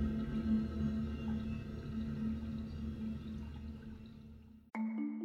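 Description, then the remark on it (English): Electronic ocean-wave noise from a noise machine somewhere on the floor, a steady low whooshing wash with a faint hum underneath, playing alone before cutting off abruptly near the end. “Somewhere on the floor, perhaps triggered by the door, the sounds of waves ebbs and flows again.”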